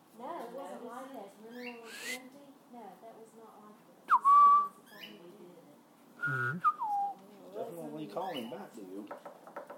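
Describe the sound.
Two short, clear whistles from a bird ring out a couple of seconds apart, the second sliding downward, while people talk throughout as a storm begins with rain and thunder.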